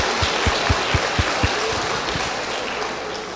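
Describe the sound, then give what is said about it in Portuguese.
A church audience applauds the keyboard player in a dense, steady wash of clapping, with a run of regular low thumps in the first half before the clapping carries on evenly. “Vamos dar uma salva de palmas também.”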